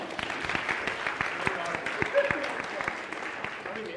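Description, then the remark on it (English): An audience at Chartwell claps together after the banns of an upcoming marriage are published, a steady, dense patter of many hands, sustained at moderate loudness for several seconds, with faint voices murmuring underneath. “12-year, you can clap.”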